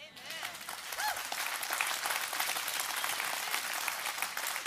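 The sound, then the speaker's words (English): A church audience at Doxa Church applauds together in a dense, sustained wash of clapping, loud and steady throughout with no pauses, a few faint cheers or whoops rising briefly over the applause. “That was one of the best just committed claps, all right?”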